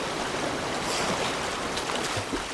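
rushing river current

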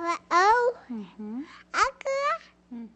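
toddler babbling

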